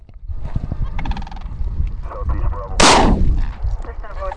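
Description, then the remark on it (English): A single loud cracker shell firecracker bang, shot off from a stopped car at an airport to scare sandhill cranes away, bursts out near the middle, its blast trailing off over a second, with birds calling before and after amid low rumbling background noise. “He stops the car and shoots off a cracker shell, basically a firecracker, to make a loud noise to scare the birds away.”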